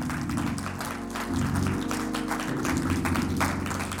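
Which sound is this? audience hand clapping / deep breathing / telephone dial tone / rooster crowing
audience hand clapping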